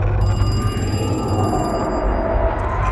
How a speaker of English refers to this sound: Great time for the phone to ring.